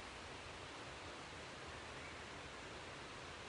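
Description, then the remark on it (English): A steady, unbroken rush of stream water flowing down a woodland valley toward the River Nid, soft, forming a continuous hiss with no voices or other sounds over it. “In the background, you can also make out the rush of water as it heads down the valley towards the River Nid, which is also our destination today.”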